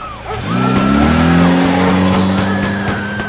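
A motorcycle engine revs loudly, its pitch climbing and then holding at a steady high drone before easing off slightly near the end, as someone is about to be given a ride on the motorcycle.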